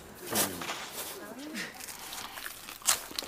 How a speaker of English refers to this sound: The crust is brittle, crunchy, cracked along the side. Fragments of charcoal baked into the bottom. And it's still hot.